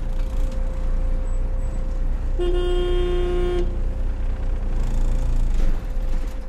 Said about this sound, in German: Kaum hat Hans-Rudi Weiss gehupt, kommen die ersten Leute aus den Häusern